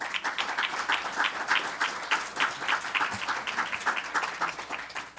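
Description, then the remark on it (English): An audience applauding steadily for the panelists of a panel discussion, a dense patter of many hands clapping at once, sustained and fairly loud throughout with no voices over it. “All right, now that you've given them that nice round of applause, we'll start with questions from the audience.”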